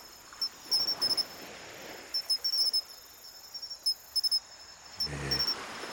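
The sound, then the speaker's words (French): Very high, thin cricket chirps repeat in short rhythmic bursts against a soft background hiss, with a brief low rumble near the end. Nobody speaks. “jusqu'à nous faire ouïr le cri-cri fantastiquement aigu, ténu, limite ultrason de bien étranges grillons.”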